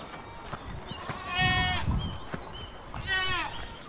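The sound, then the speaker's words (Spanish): A tiny flock of a very black goat, a ewe and two lambs bleating, two wavering, quavering bleats a second or so apart, with soft shuffling and light knocks in between. “Un minúsculo rebaño que por su aspecto menos mágico que la negrísima cabra da más alegría a todos.”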